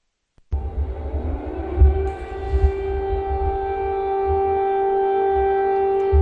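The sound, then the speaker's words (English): Air raid sirens wail steadily across Kyiv, Ukraine, half an hour into 2023, their sustained tones rising into a loud, continuous drone over a low rumbling background, with no voices present. “Just a half an hour into 2023, air raid sirens rang across Ukraine's capital, followed by the sound of explosions.”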